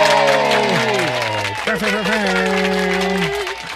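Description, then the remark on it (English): A dense wash of applause with a crowd cheering over it after the announcement that flag football is coming to the 2028 Olympics, sustained whoops sliding up and down in pitch, staying loud and steady for a few seconds. “Did you have applause when I announced what's coming in 2028?”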